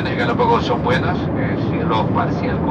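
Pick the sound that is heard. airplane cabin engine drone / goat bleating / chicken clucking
airplane cabin engine drone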